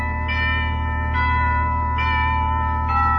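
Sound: doorbell ringing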